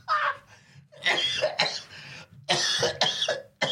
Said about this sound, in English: The problem is, because I've got this cough, it's very difficult to laugh.